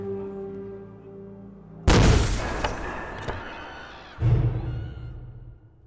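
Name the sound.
explosion with shattering glass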